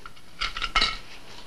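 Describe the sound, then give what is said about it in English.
Coins, including a quarter and a half dollar, drop and clink into a piggy bank: two quick bright metallic jingles with a short ringing tone after the second, then quiet. No one speaks. “Your father thought you could start saving your dimes and quarters in it.”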